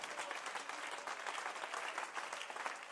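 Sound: audience clapping hands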